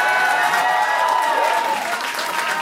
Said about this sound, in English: and then the crowd erupted in some sort of applause.